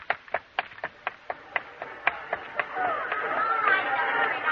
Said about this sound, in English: The crowds lining the curbs outside and down the street coming towards you is the brass band at the head of a parade.